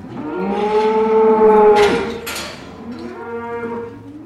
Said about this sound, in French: C'est la sortie des vaches pour aller au pâturage.